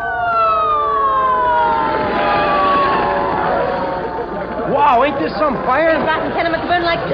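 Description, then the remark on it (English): Several fire engine sirens wail loudly, their long falling tones giving way to quicker rising-and-falling whoops that overlap one another over a low rumble of engines. “Boy, did you ever see so many fire engines?”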